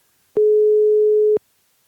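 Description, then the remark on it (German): A telephone ringing tone as a call is dialed by clicking 'Wählen' (Dial): one steady, low-pitched beep lasting about a second, loud and alone, starting and stopping with faint clicks. “Ich klicke jetzt einfach schon mal auf Dings, auf Wählen.”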